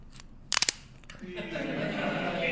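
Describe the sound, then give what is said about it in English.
A bottle of ID Mobile home-brewed wine is opened with a quick burst of three or four sharp, crackling clicks, followed by a steady, rising rush of hissing, fizzing sound. “Sounds like cracking knuckles, isn't it?”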